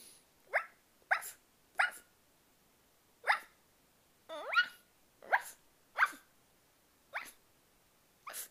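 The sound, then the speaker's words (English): A person imitates a dog barking: about ten short, sharp yaps in an uneven series with brief pauses, clear, with no other talking. “I think I can bark like a dog too.”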